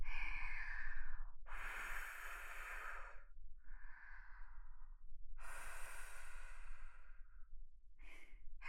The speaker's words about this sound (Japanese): 息吹きかけただけでビクッてした。追い詰められて熱くなってるおちんぽ、ちょっと冷ましてあげる。